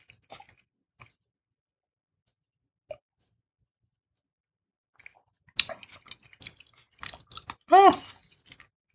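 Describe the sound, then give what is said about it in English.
Crisp crunching of someone chewing a fresh, crunchy salad. A few faint mouth clicks come first, then a dense burst of wet crunches and a brief hummed murmur near the end. “Actually, it's not bad with the salad.”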